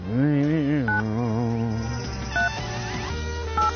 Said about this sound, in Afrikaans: Ek hoop ek het nou die regte nommer daar gedruk.